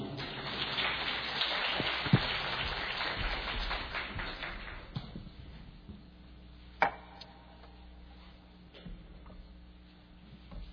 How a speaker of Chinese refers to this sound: OK， 那我们大家以掌声来欢迎他。